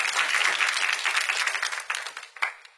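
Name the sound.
audience clapping hands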